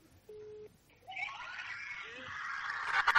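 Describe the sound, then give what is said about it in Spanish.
A brief steady electronic beep, then a crowd of people bursts into shrieking, high-pitched screams that swell and grow louder toward the end. “Chillidos.”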